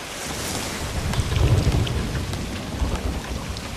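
A heavy early-morning thunderstorm with lightning, with steady rain hissing throughout and a deep rumble of thunder swelling in the middle before fading back under the downpour. No one speaks.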